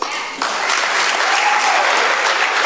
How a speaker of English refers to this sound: And Democrats clapped for like 30 seconds. So we're not going to bore you with that.